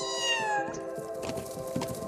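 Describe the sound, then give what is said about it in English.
A kitten's high, plaintive meow, its pitch sliding downward over about half a second, followed by a drawn-out, wavering cry. It is a recording played from a speaker in a playback experiment. Clear, with no talking. “It is not as though she really wants to be defending a kitten, but the sounds is so similar that she can mistake it for the cry of a fawn.”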